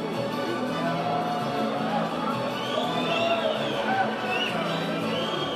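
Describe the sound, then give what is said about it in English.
A large, mostly male crowd at a fight roars and cheers steadily around the ring as ring girls in silver heels walk around it between rounds, a dense wash of many voices with scattered whoops and shouts rising above the din throughout. “The mostly male crowd loves the Corona girls, who trot daintily in silver heels around the ring, undisturbed by the sweaty, heaving fighters sucking in air and gulping down water.”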